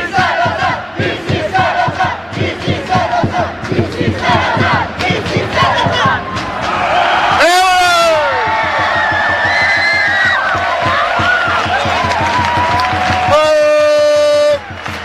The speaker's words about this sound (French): Je vous rends bientôt l'antenne dans 2 secondes, mais je vous laisse à l'explosion de joie des supporters lausannois.